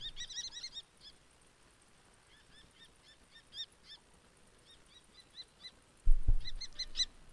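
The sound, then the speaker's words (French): A common kestrel calls in rapid bursts of shrill, sharp notes, fast runs at the start and end with sparser, quieter calls between, plus a brief low thump near the end. “Eh bien, voici tout de suite le chant du faucon cresserelle.”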